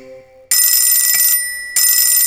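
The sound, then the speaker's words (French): An alarm clock rings loudly with a harsh, rattling metallic clang. It breaks off briefly, then starts again, following a few soft tones at the start. “Tic tac, tic tac, mon réveil matin.”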